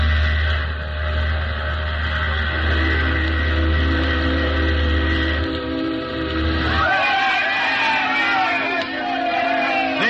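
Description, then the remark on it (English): An atomic-powered ship's steam whistle, blown by push-button on the captain's order, sounds one long, steady, loud blast of steam raised by heat from the ship's atomic pile. The blast lasts about seven seconds, then gives way to a jumble of wavering whistles from other harbor craft answering, and crowd noise. “to speak her first word through a blast of steam raised by heat from the atomic pile in the innards of the ship”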